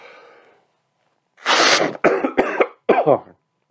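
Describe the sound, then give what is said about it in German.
Someone hawks up phlegm from the throat: a long, harsh, raspy rush of breath from the throat followed by three shorter, gurgling bursts, loud and alone after a faint breathy lead-in. “Aus dem Hals kommt auch was.”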